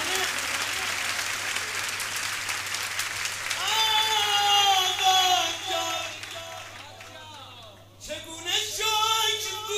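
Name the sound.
audience clapping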